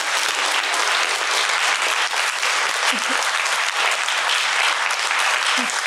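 Steady, dense applause from an audience, a continuous crackle of many hands clapping at even loudness throughout, with a few faint voices or whoops briefly rising above it.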